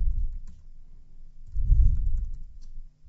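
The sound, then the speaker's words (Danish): Soft, irregular clicking of keys on a computer keyboard as square brackets are typed to make an internet link, over a low rumbling background, with scattered taps rather than a steady rhythm. No one speaks. “Altså de der to skarpe parenteser til den ene side, og to til den anden side, og rykker cursoren ind, og så skriver vi noget om internetlinks.”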